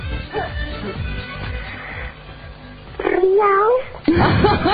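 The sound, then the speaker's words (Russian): After a few seconds of low, muffled background noise, a woman contestant, asked to act like a tigress, imitates a tigress growling in two loud, wavering snarls, one right after the other. “Ну, представьте, что вы тигрица, да? Вот, во всем обличии. Ну, порычите на нас, а?”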